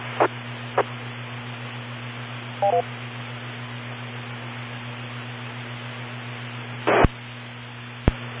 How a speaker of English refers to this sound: Not sure if you heard my phone go off, but just turned my notifications volume all the way down. Not sure why that had to go off while I was transmitting.